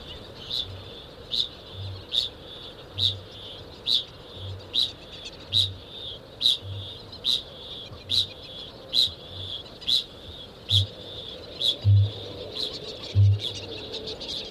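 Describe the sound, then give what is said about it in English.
A kākāpō, a rare night parrot, gives deep, resonant booming calls that repeat steadily about once a second, growing slightly louder toward the end, over a constant high-pitched chorus of chirping insects or birds at night. “this is the story of a rare bird, a remote island, and a remarkable year. Part 1. Kākāpō, Night Parrot.”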